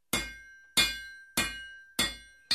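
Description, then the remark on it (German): A blacksmith's hammer rings against metal in five sharp, evenly spaced blows, each strike clanging brightly with a sustained metallic tone before the next, clear with no voices. “Ein Schmied arbeitet mit dem harten Werkstoff Metall.”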